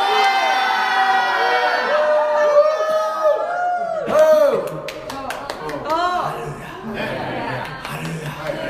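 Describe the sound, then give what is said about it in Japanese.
A crowd of many voices shouts "Hallelujah" together in a loud, overlapping roar, then sharp handclaps burst in, scattered and uneven, mixing with continued cheering and calling out. “叫びましょう、ハレルヤ。”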